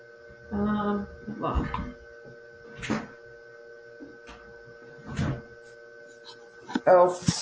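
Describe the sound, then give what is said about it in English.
An overheated computer's cooling fan whirs furiously and steadily with a constant tonal hum throughout, moderately loud, while brief voices and scattered thumps occasionally sound over it. “My computer is, the fan is whirling furiously because the computer is super hot.”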